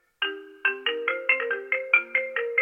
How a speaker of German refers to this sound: Handy klingelt. Ich erfasse automatisch die Uhrzeit, 0:29.